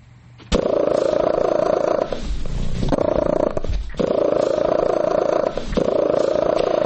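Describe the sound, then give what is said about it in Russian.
A house cat named Merlin, from Devon in Great Britain, entered in the Guinness Book of Records for purring measured at 67.8 decibels, purrs loudly and steadily, its rumbling drone pulsing in long cycles with brief dips between breaths. No one speaks. “67,8 децибел достигает громкость мурчания кота”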